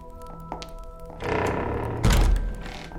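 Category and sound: household object, door being closed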